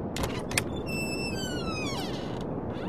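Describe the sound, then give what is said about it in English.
A wooden hut door creaks open in one drawn-out groan that slides downward in pitch for about a second, set against a steady hiss of background noise. “I'm gonna open the door.”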